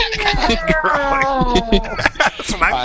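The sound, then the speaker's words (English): A door creaks long and loud, its whining, pitch-bending squeal sounding almost like a meowing cat, wavering on and off for several seconds. “What the heck was that? Oh, that's a door. It's almost sounded like a cat.”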